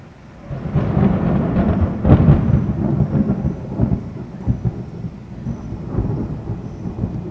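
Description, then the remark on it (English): A loud, close thunderclap bursts in with a sharp crack, then rolls into a heavy, sustained rumble that slowly fades, with a wash of rain-like hiss underneath. “It was the full reaction of her to the clap of thunder that was so near her.”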